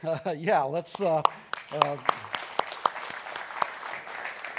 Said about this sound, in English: You know, in the Bible, there is clapping, and we don't do it to the praise of men, but to the glory of God.